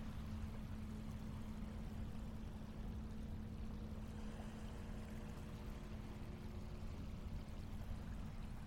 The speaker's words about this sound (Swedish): Nu står jag precis vid strandkanten. Du kan få lyssna lite på vågorna här.